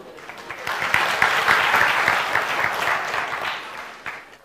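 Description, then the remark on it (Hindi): A crowd claps steadily for several seconds, a dense wash of many hands that swells early, holds, then thins out toward the end with a few scattered final claps. “उनके लिए तालियां।”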